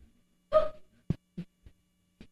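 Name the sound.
sneeze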